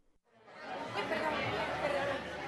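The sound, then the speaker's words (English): A steady wash of crowd chatter fills a tapas bar in Spain, many overlapping voices blending into a dense, lively murmur with no single speaker standing out, rising quickly from near silence. “Judging from the crowds in Spain's tapas bars, you might wonder where the economic crisis is.”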